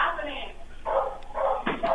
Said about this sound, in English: Can you tell that dog in the background to shut the fuck up? Because he's barking really loud and I can barely hear you.